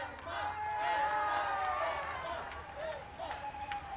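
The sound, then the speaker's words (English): A dense roadside crowd on a street hung with Swedish flags cheers and shouts continuously as a cycling race peloton approaches, many overlapping voices rising and falling, with a steady outdoor rumble underneath for the whole stretch. “And as the peloton nears the crowd, they all cheer with delight as they see their favorite cyclists in the front.”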